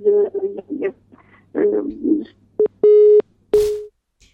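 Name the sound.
phone busy tone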